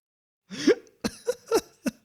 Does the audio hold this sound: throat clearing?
yes